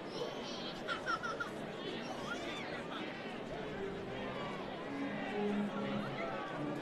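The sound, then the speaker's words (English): A steady murmur of a modest crowd fills Greater Nevada Field, an open-air ballpark in Reno, on a cool day during a baseball game. Many voices blend into a moderate, continuous hubbub, with occasional brief calls rising above it. “Not a big crowd on hand here in Reno, but not a bad crowd either, considering the thunderstorms that rolled through here earlier today and the fact that it's cool.”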